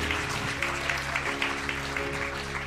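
An audience at a morning family church service applauds loudly to greet online viewers, a dense, steady patter of many hands clapping for a few seconds, with a low, steady tonal hum running underneath and no voices.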